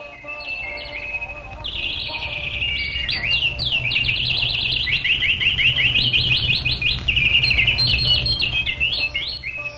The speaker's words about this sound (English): The bees buzzing, caused by the fragrant breeze from the Parijata garden, roused the birds from sleep, and when the birds began to sing loudly, they woke Lord Krishna like court poets reciting his glories.